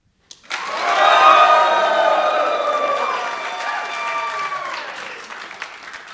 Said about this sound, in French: Et d'ailleurs, je vais demander à tous ces gens de se manifester par un cri sauvage d'extase ou de colère ou d'applaudissement, comme ils voudront, pour prouver que je ne dis pas des bêtises à la radio.